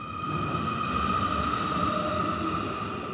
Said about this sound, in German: Ab in den Feierabend, runter in die U-Bahn-Station.